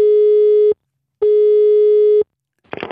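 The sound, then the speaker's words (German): A telephone line tone sounds twice, each a steady, loud, single-pitched beep lasting under a second with a short pause between, before a voice begins speaking at the end. “Ab jetzt wird telefoniert.”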